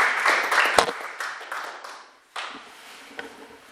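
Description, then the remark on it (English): A crowd claps together in worship, praising the Lord, in a dense burst of overlapping hand claps that fades, then picks up again more softly, with a few sharper individual claps standing out near the end. “If you believe it, come on and clap your hands and magnify the Lord.”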